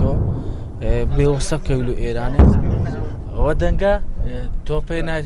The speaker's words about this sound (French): Ça, c'est les canons des Turcs qui tirent des obus sur Daesh, et Daesh nous tire dessus.